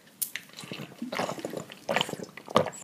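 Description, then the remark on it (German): Water sloshing as someone drinks water with a little lemon juice from a large water bottle, with irregular gulps and splashy bursts over a few seconds and no talking. “Also diesmal war es meine Riesenwasserflasche. Mit Wasser und ein bisschen Zitronensaft.”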